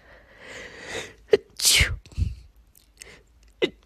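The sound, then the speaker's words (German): A single sharp sneeze bursts out after a quick intake of breath, followed by a few soft breaths and small mouth noises. “Und ich habe mich richtig schuldig gefühlt und es war total spannend, weil jetzt, wo ich die Geschichte erzähle, merkst du auch an meiner Stimme, vorher war sie sehr klar und jetzt muss ich so oft niesen.”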